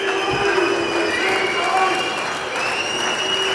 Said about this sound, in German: Also. Pfiffe, Applaus. Ja, und der Boss spricht gleich.